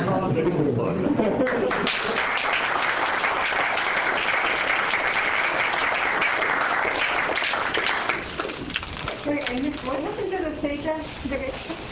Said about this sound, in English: Should we applaud?